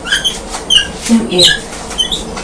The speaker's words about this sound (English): Every time the drawer knob squeaks is when you're twisting it round.